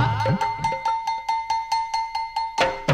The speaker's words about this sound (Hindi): रोटी जली, खाना है तैयार घंटा बजा।